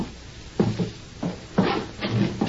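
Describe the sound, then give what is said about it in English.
A door being opened: a series of short, muffled clunks and rattles from the latch and hinges, spaced unevenly over a couple of seconds, with no voices. “Open the door.”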